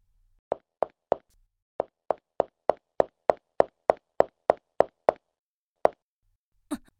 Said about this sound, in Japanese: 足音がした。気のせいか。